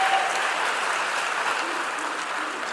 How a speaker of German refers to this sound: Okay, hier erstmal euer Applaus für null.